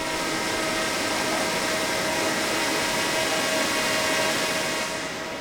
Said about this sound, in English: A drone flies past the deck and overhead above the swiftly flowing river. Students are getting visuals of the area to find the best spots to set up live cameras.